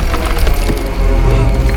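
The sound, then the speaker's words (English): A loud, crunching smash as a tree monster punches through a wall, wood cracking and splintering in a dense burst of snapping debris over a heavy low rumble, with no voices. “The tree monster punches through the wall and grabs Connor in its fist.”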